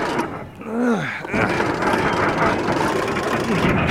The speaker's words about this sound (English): And turned the crank to start it. Then he hopped into the back and Nelson drove off